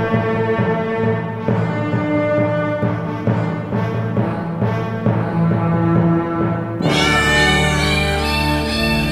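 A novelty tune made of pitched cat meows strung into a jingle melody, loud and continuous, shifting near the end into a brighter, denser sustained section. No one speaks.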